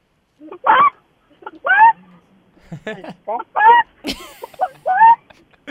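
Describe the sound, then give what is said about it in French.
A 10-year-old boy imitates a chicken, letting out a loud, uneven string of squawky clucks and drawn-out bawks, about eight bursts with short pauses between them. “Hey, là, non, regarde, je suis en auto, c'est mon petit gars de 10 ans qui va te faire la poule.”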